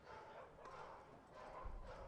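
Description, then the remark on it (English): A dog barks a few times, faint and irregular, over a steady wash of outdoor crowd ambience with no talking, at a baseball game. “There can't be that many dogs here.”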